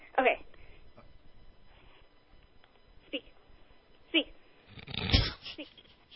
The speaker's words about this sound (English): The dog is the Alaskan Malamute is there on the floor. And you're saying I love you and then you put the phone to his mouth?